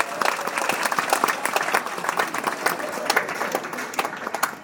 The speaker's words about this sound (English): Let's give him a round of applause before we start.